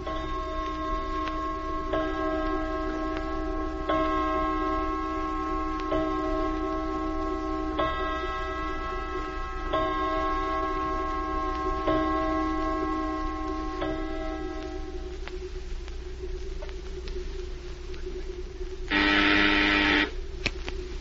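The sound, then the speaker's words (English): A clock ticks steadily and evenly over a sustained resonant hum, fairly clear, with no voices, until a brief louder burst of noise near the end. “Look at the clock.”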